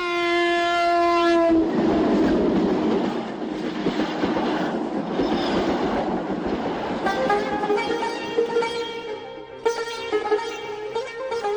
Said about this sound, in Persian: قطار که حرکت کرد